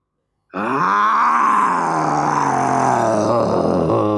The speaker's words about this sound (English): The lion roared so fiercely that all the toys were really scared. He sniffed at the box and growled.